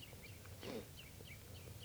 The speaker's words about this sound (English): Recording, the birds are just perched here for a long time giving alarm calls to each other and now to give you chitter notes.